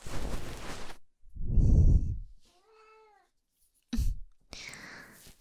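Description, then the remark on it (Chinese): A shop's kitten in an ear-cleaning parlour gives one short, high, wavering meow, fairly soft, between breathy rustling noises and a brief muffled thump. “这是人家店里的小猫，先生喜欢。”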